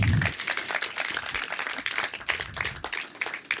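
A burst of applause, many hands clapping in a dense, steady patter for several seconds, with a low voice briefly audible at the start.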